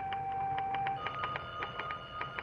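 In an office, a telephone rings with a steady, buzzing tone while a secretary's typewriter clacks in quick, uneven taps over it, both moderately loud, with no one speaking.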